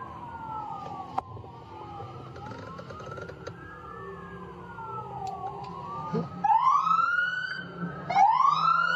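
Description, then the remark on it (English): A police siren wails in long rising and falling sweeps, growing louder toward the end, with a low rumble of traffic underneath. “See, even the police, they're going crazy.”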